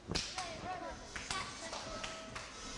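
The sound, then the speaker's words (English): A handful of sharp, separate claps ring out at an uneven pace over about three seconds, with soft voices murmuring in the background. “There's a bit of clapping in a second.”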